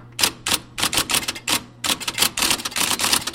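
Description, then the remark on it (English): An IBM Selectric electric typewriter, a giant machine from circa 1961 with a golf ball-sized type ball, hums steadily while keys strike in quick, uneven bursts, a brisk rapid clatter with short pauses between flurries of typing. “How about that hum, huh? An IBM Selectric, the giant electric typewriter with a golf ball-sized type ball, circa 1961.”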